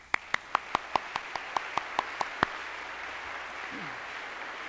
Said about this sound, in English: I'm going to ask all the new adjunct professors if they will stand for just a moment, please, and let's give them a moment of applause, if you will, please.